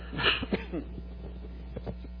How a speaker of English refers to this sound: Sorry about the cough.